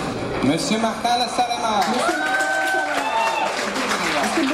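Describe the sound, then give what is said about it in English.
A crowd cheers and shouts together as supporters stand to vote for the third reading of Bill C-38, on legal capacity for civil marriage, many overlapping voices rising in a loud, steady roar with a few higher whoops standing out, continuing throughout. “The crowd cheered when our supporters stood up to cast their votes.”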